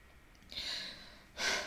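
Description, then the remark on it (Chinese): Two wet, airy sniffles through the nose, the first drawn out and the second sharper and louder, like someone sniffling while crying, with no talking. “我没哭，吸鼻子。”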